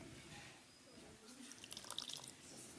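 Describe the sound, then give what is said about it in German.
Lemon juice being poured, a short trickle of splashy drips and spatters that builds after a quiet moment, fairly soft overall with no one speaking. “So, jetzt brauchen wir Zitronensaft. Den haben wir hier drin.”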